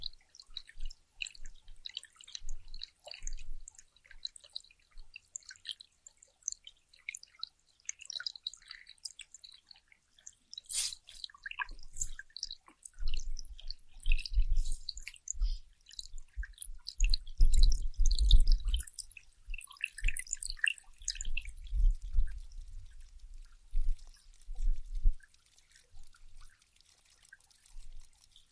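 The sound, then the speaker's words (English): Water drips and trickles steadily for the whole stretch, with scattered irregular drops over a low gurgling flow that swells louder midway, with no voices. “Water sounds. Yeah, there's some water sounds.”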